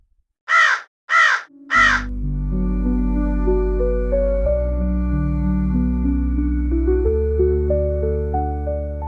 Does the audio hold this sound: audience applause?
no